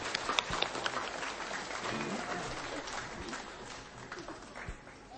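An audience applauds with a dense, steady patter of many hands clapping for several seconds. A few voices call out faintly beneath the clapping.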